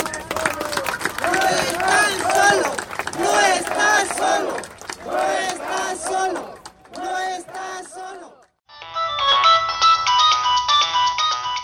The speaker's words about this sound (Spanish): Si quieres que tu celular suene así